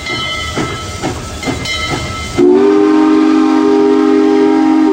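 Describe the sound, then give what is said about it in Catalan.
A steam train chugs along with a steady, rhythmic beat, then a loud, sustained whistle blasts and holds to the end, with no voices; a passenger has boarded and gone to his private carriage for a long journey home to Pittsburgh. “Acaben les celebracions i l'Evan se'n torna cap a l'estació. Puja el tren i se'n va directe cap al seu vagó particular.”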